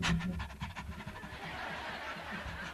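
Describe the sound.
A voice imitates a dog panting: quick, breathy huffs in a steady rhythm, fairly loud, continuing for a few seconds with no words spoken.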